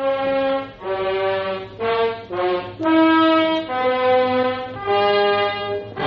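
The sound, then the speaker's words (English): A ship's alarm horn blares in a string of loud, brassy blasts, each a sustained buzzing tone, the pitch stepping up and down from one blast to the next with no pause; it is a false alarm. “Didn't you hear the alarm?”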